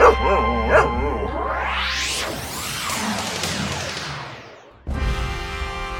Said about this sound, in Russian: Перелесок у подножья горы. Слышите? Кажется, псы лают. Как на охоте.